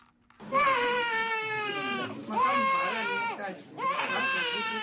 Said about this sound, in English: That is a newborn girl crying